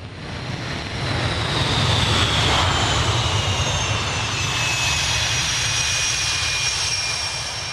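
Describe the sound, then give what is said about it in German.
A Swedish Gripen fighter jet roars loudly and steadily as it takes off on a test flight, a dense rumbling thunder with a high whine sliding slowly downward over it, sustained for the whole stretch with no voices. “Sogenannte Planespotter, Flugzeugfans mit riesigen Teleobjektiven an den Fotoapparaten, hat es einen Pistenrand für das beste Bild, wenn der Gripen losdonnert.”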